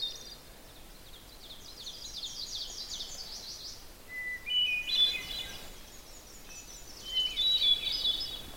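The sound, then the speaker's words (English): A hermit thrush's flute-like, ethereal phrases, each a preliminary note followed by a series of flute-like notes, and an ovenbird, a small warbler, repeating its quick ringing 'teacher, teacher' song, sound together outdoors in a mossy forest understory, with no voices and a quiet background between phrases. “There's also an oven bird, the little warbler that goes teacher, teacher, teacher, teacher.”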